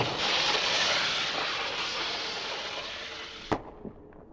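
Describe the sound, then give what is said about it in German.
A firework cartridge, one of five found in a borrowed car, is loaded and set off after a countdown; it launches with a long, loud rushing hiss that gradually fades, then a sharp crack bursts out near the end, followed by a couple of smaller pops. “Okay, die Patrone rein. So. 3, 2, 1, 0 und Feuer!”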